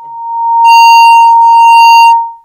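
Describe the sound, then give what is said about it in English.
A single sustained electronic alarm tone, steady and piercing, swells in, holds loudly for about two seconds with a buzzy edge, then fades out. Nobody speaks. “Is that me? My phone, maybe?”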